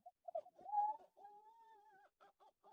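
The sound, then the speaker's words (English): A barred owl call blown on a handheld owl hooter: a wavering, rising whoop, then a long drawn-out tone, ending in a few short hoots. Clear and fairly loud, with no talking. “It's a great high pitched climbing call that the barred owl does.”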